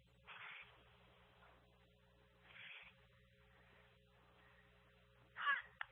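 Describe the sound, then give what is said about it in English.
Cheerleaders chant in three short, shouted bursts before the kickoff at a night football game between the Panthers and the Linville Sully Hawks, spaced a couple of seconds apart, the last one loudest, over a steady low hum with no one talking. “There's the cheerleaders calling up for the kickoff.”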